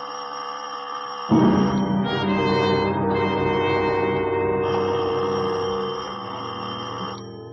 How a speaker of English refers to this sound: Doorbell. It stabbed the air of the quiet house like a knife blade. I meant not to answer it, but something made me walk over to the door and open the slot.